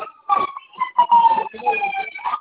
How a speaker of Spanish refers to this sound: Ok, escucho ya ahí una sirena, ¿no?